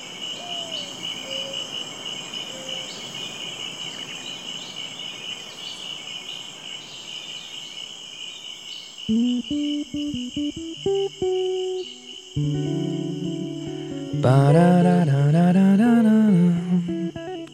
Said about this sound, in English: believe it or not, it's loud. Especially some of the places I go to are kind of remote. And the tree frogs and the crickets and the birds, and it's just deafening sometimes. Especially right after a good rain, all the frogs get really fired up.